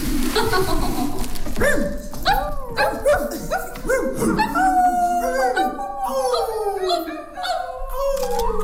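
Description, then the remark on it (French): A group of friends imitate a pack of dogs, overlapping howls, yelps and barks in a loud, continuous chorus with rising and falling wails throughout. “On a tous un autre enfant qui est encore en nous, qu'on aime accentuer parfois, et qu'on s'est tous retrouvés en meute comme les chiens.”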